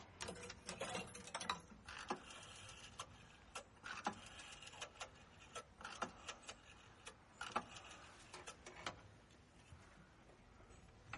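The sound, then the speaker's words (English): Coins drop one after another into the top slot of a payphone in a phone booth, making a quick irregular run of small metallic clicks and clinks over a faint background hiss, with no talking. “She inserts coins in the top.”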